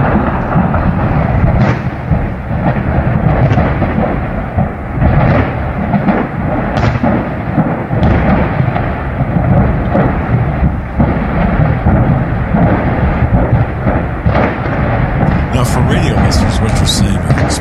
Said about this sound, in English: Explosions, excuse me, nitrogen tanks in this facility. And shrapnel flying upwards of a mile away.